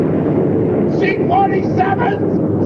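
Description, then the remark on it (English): A dense, steady drone of 24 C-47 transport planes flying together in tight formation fills the air, a loud continuous rumble with indistinct voices briefly rising over it midway. “Sunlight gleams on the noses of 24 transport planes flying in tight formation.”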